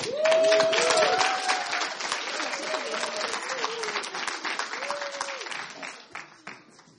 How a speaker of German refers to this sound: Ihr habt schon viel geklatscht. Wollen wir gleich nochmal so richtig fett mit einem Applaus Dankeschön sagen an die ganze Truppe, groß und klein?